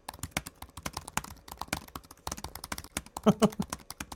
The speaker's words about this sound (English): a lot of people watching this, I bet you, really love the loud, clicky keyboards. Okay. So, yeah, I bet. So I took all the gating off so you could hear everything, okay? Yeah, I hear all the noises.